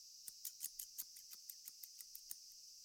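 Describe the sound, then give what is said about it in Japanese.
Cicadas buzz in hot weather in a steady, high-pitched drone, with soft rhythmic ticks pulsing through it about every fifth of a second. The chorus sounds fairly faint, with no voices. “だからセミは元気ですね。”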